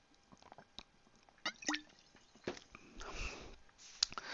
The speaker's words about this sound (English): Gotta take a sip of my cheer wine.